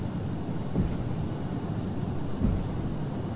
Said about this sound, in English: You're now the loudest plane on the planet at an air show that you're going to hear is the F-22 Raptor. Oh, wow.